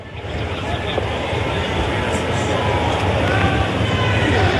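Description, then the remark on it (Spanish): A crowd of pro-Kast supporters roars and shouts in the background as the President arrives, in a dense, continuous wash of noise that holds steady and grows slightly louder throughout, with no single voice standing out. “Ustedes escuchan los gritos de fondo.”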